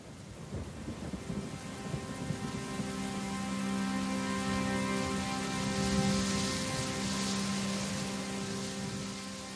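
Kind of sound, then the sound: nature, rain falling with thunder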